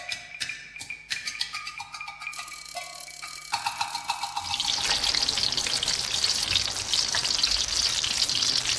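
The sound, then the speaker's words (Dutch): A few light clinks and taps, then a steady splashing pour of warm water into a dipping sauce of sake and soy sauce that continues loudly to the end, with a faint sizzle-like hiss. No one speaks. “Een beetje warm water, wat we hier nog hebben.”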